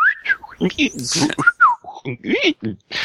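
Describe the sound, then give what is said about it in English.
A few quick, warbling whistled chirps imitating a Star Wars droid's beeps, rising and falling, mixed in with speech-like vocal sounds from the same voice. “You gotta start talking in beeps now. In there whistles.”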